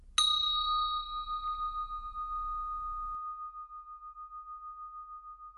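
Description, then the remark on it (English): A single meditation bell is struck once during a mindfulness exercise, signalling that 10 minutes have passed: a bright metallic ring with shimmering overtones that hangs and slowly fades over several seconds, heard alone. “If you wish to stop the exercise at this point, simply open your eyes when you hear the bell ring, look around the room, have a good stretch, and take this sense of mindfulness out into the rest of your day.”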